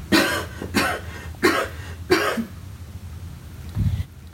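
dry cough

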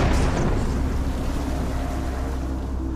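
explosion

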